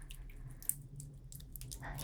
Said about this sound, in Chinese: 嗯，听到我吗？听到这个水声了吗？